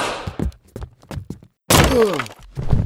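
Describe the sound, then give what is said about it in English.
A big man, his legs taken out from under him with a whip, face-plants into a table: a run of short, dull thumps gives way to a loud, splintering crash with a falling groan-like tone, then a final softer knock. “You took his legs out from under him with a whip, and the big fella face planted into a table.”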